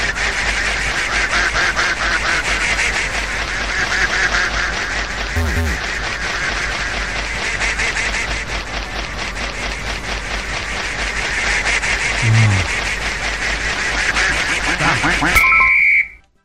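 A dense, loud chorus of cartoonish duck quacks from a video game in which a fake intruder duck must be found and caught among the real ones, overlapping rapidly and continuously for about fifteen seconds before ending with a short high tone and an abrupt cutoff.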